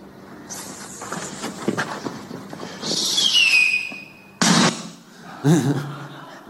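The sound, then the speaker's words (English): A firework whistles as it rises, its pitch sliding downward, then two sharp, loud bursts go off a second apart over faint background noise. “I have a little bit of a video here to show some of the importance of what it is to pay attention, especially when fireworks and things are going off, when you have kids around.”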